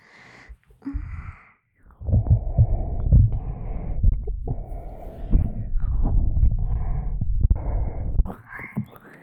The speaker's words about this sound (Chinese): 可是人家趴在你的胸口上，可是听到你心跳扑通扑通的，明明跳得很快啊，还 还想瞒着我。